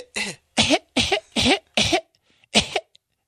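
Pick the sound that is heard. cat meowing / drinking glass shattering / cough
cough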